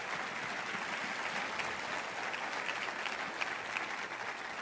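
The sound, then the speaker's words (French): Steady applause from an audience during a French-language sermon, a dense wash of many hands clapping at an even level throughout, with no voices rising above it. “Et à l'avance, voulez-vous applaudir ce qui va arriver, ce qui va prendre place de miraculeux et de surnaturel.”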